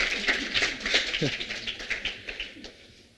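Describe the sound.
One person claps a quick, slightly uneven run of sharp, fairly close claps, fading toward the end, with a faint voice murmuring briefly underneath.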